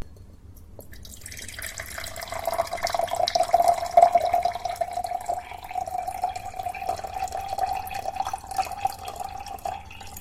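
Water pours steadily into a glass, a continuous liquid splash with a tone that slowly rises as it fills, starting after a quiet moment and running to the end with no voices.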